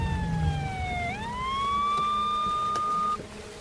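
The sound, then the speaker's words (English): A police siren from a police cruiser with lights flashing, heading toward Herman's estate, wails steadily, its pitch dipping and then rising into a long sustained tone, with low traffic rumble underneath. Loud, no voices. “As Jean Harris drives away from the crime scene, she sees a police cruiser with lights flashing heading toward Herman's estate.”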